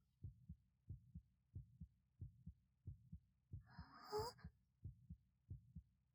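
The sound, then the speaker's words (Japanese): A steady, muffled heartbeat of an older man's chest thumps, paired lub-dub beats at a regular pace, as if heard pressed against the chest, with a brief rustling, scratchy sound passing over it midway. “おじさまの胸もドキドキしてる。”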